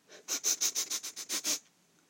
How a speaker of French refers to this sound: Le roi renifle.